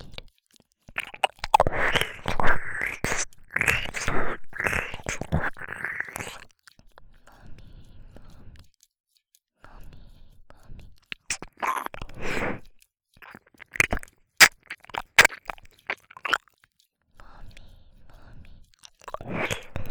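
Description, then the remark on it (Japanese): Wet ear-licking mouth sounds: smacking, slurping and sharp clicks in irregular bursts, dense and fairly loud at first, then sparser and quieter with isolated crisp pops and faint breathy whispers. “バニーのお姉さんにご褒美耳舐めされながらシコシコされるの好き。”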